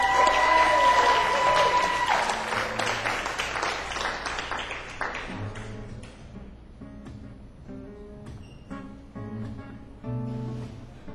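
An audience breaks into a dense burst of clapping and some cheering that gradually thins out over about five seconds, after which a man starts talking over a few lingering claps.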